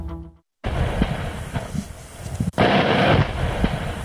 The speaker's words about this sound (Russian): Несмотря на распоряжение Аксенова, взрывы на Баксанском карьере продолжаются.